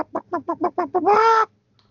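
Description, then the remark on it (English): A voice imitates Chopper, the droid voiced by Dave Filoni, sounding like an angry mother hen: six quick, agitated clucks in a steady rhythm, then a longer, louder drawn-out squawk. Clear, with no talking, followed by silence. “He sounds like an angry mother hen just going, brawk, brawk, brawk, brawk, brawk, brawk.”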